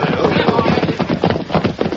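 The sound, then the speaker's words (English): Horse hooves clip-clop in a quick, steady rhythm, fairly loud, as a group of riders heads for Rock Ridge, the clatter running continuously for the whole moment with a busy rumble beneath it. “Slow down. Let the others get ahead. Oh, easy, horse.”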